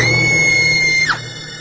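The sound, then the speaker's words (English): A loud, sustained high-pitched scream holds steady for about a second, then its pitch bends sharply downward and trails off, heard alone without any talking. “And then I started to scream.”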